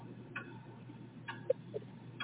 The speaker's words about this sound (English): I sweat at every minute past as the tick-tock of the giant clock then intensifies into a madness reverberating a loud clang of steel.